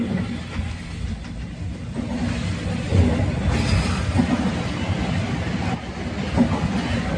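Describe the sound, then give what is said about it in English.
Steady low rumble from inside a moving university-to-town bus early in the morning, with continuous engine drone and road noise, plus faint rattles and bumps throughout; no one speaks. “This is me on the university to town bus early this morning.”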